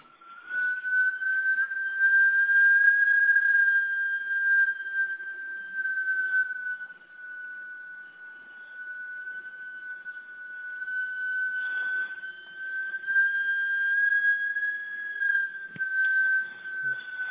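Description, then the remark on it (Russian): Wind whistling in a steady, high, thin tone that holds for the whole stretch, its pitch wavering slightly as it swells and eases, with no one talking over it. “Там чайник вытекает? Нет, это ветер.”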